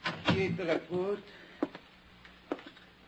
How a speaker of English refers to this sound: She motioned silently and then turned away. I stepped inside and closed the door.